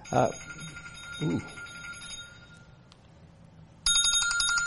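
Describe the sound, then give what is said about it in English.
A telephone rings with a spam call, a bright, buzzy electronic trill, pausing briefly before starting again loudly near the end. Short bursts of voice are audible early on. “I turned it off. It's spam anyways.”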